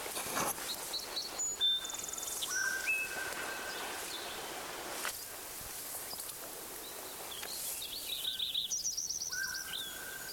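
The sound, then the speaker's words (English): Sparrow number one sings again: repeated thin, high whistled notes and trills, with brief buzzy phrases, over a steady soft hiss of background insects and outdoor ambience; no one speaks. “Blanket sparrow number one is singing again.”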